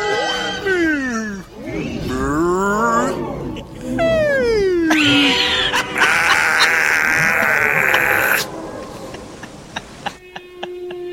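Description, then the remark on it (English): A human voice imitates a car engine's random noises when revving, sounding like humpback whale song: long, sliding moans and rising squeals, loud, followed by a high held whine and a brief crackling, clicking tail. “Like there's a humpback whale trapped in my engine.”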